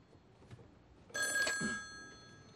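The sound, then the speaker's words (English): A telephone bell rings once after a moment of near silence, a bright, jangling burst that fades out slowly, with nobody talking. “He approaches the phone.”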